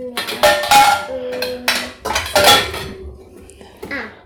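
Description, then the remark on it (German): A glass lid clinks and rattles as it is placed on a steaming pot on the stove, in several bright, ringing knocks, with sustained metallic tones between them, before settling quieter with faint scraping at the end. “Findest du einen Glasdeckel, den du drauflegen kannst?”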